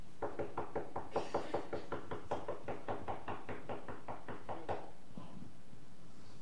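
A rapid, steady run of roughly twenty knocks on a hard surface, fairly loud, lasting about four and a half seconds before stopping, followed by quiet room tone.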